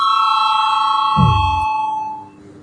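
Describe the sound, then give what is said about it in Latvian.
A parliament chamber bell rings out before a vote on a draft decision, a steady, bright, sustained tone lasting about two seconds, with a brief low thump midway before it cuts off and fades. “Lūdzu zvanu.”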